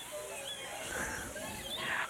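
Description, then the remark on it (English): A child imitates a mouse during a group sound-effects game with a few brief, high-pitched squeaks, soft and scattered over a steady hiss of background noise. “A mouse goes.”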